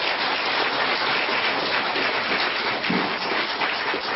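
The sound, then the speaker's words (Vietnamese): An audience in a lecture hall applauds the children of a group after their special performance: a dense, even wash of many hands clapping at once that holds at the same loudness for the whole stretch, with no voices rising above it. “Xin quý vị một tràng pháo tay cho các em.”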